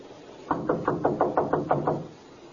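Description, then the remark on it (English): A quick series of about nine firm knocks on a door by police officers, evenly paced, lasting just over a second before stopping, with no voices. “Knock again.”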